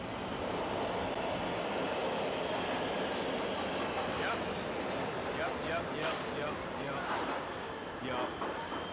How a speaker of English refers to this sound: That's right, ladies and gentlemen. It's the subway. Uh-huh.